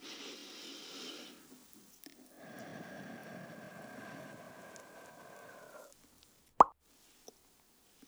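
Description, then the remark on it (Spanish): A single sharp bubble pop breaks through after several seconds of soft, hissing ambient wash, followed by a quiet tick and silence. “Una burbuja, a ver.”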